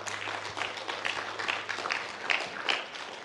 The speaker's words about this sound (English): Let's give her a hand clap for that.